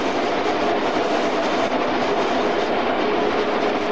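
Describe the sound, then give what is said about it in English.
A train rolls steadily along the rails at about 70 miles an hour with power shut off ahead of a speed check, a loud, dense rumble with a constant rushing roar and faint rhythmic clatter, unbroken throughout. “And it'll have to start braking down to 20 mile an hour from, we're just on 70 mile an hour.”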